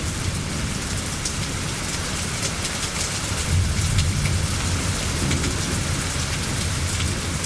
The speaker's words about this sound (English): a little storm from last summer in podcast 583